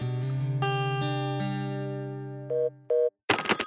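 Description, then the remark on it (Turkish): A Gigaset cordless DECT telephone rings in a home in Turkey with a bright electronic melody of layered sustained tones, then two short beeps and a brief burst of noisy sound at the end, clear. “Türkiye'de her evde bir gigaset çalıyor.”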